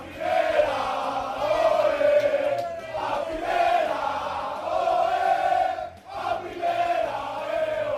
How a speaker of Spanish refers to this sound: La fiesta se prolongó después en la Plaza de España de Leganés y ha terminado a altas horas de la madrugada con un grito común ayer de afición y jugadores: el Lega es de primera.